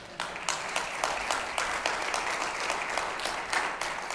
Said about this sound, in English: Now, let me just say at the outset, I know that you're clapping because you don't hear this.